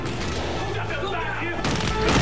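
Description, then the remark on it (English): A dense, noisy stretch of gunfire in a busy mix as a man crawling along the floor shoots at a gunman in a towel, with a burst of sharper, brighter shots near the end that grows slightly louder. “As he and Kelly crawl along the floor, Alex shoots at a gunman in a towel.”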